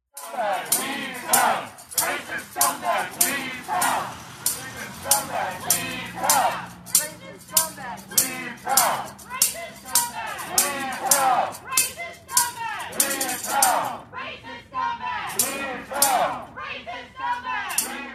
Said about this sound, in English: Last night, a mob showed up at Tucker Carlson's house and was screaming at him. Here's just a little clip of it.